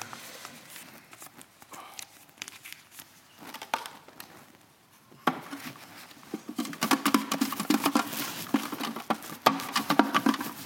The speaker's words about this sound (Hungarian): Ezeket összehajtom, és beteszem ebbe a dobozba, megpróbálom minél jobban összekeverni ezeket a papírokat.